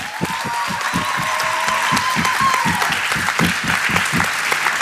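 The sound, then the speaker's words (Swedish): An audience claps steadily for several seconds for a speaker, dense overlapping hand claps with a few louder individual claps, and no talking over it. “Vi kan ge Elias en applåd.”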